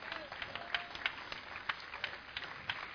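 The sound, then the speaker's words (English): An audience breaks into applause as a clap offering to God, many hands clapping in a steady, dense patter for several seconds, moderately loud with a few sharper claps standing out. “Give God a clap offering.”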